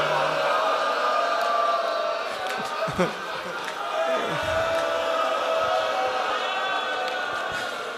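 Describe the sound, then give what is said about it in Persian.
A dense crowd of voices ululates together in a sustained, high, wavering chorus. The trilling stays steady and fairly loud throughout, with a few thumps and brief dips mixed in. “صدای هل هل بود و”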